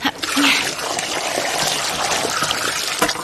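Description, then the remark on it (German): Cooking water is poured steadily off a pot of boiled root vegetable into a sink, a continuous splashing gush with a hissy, bright texture that holds for a few seconds, no voices. “Ich gieße mal das Wasser ab.”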